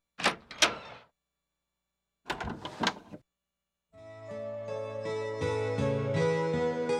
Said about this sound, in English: The door opened, and her husband came in.